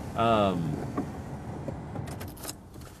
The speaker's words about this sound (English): So this, I grew up in the Philippines, and when you have a car running in the Philippines and it's hot outside, that's bad for the car. So I'm going to roll down the windows, I'm going to turn off the car, and just sweat it out. So here we go.